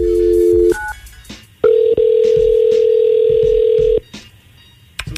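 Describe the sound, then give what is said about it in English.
A steady telephone dial tone gives way to a quick series of dialing beeps as a phone call is placed to a woman, then a long continuous tone sounds for a couple of seconds before cutting off; no one speaks. “Get Alana on the phone, Jonathan, and let's see what she has to say.”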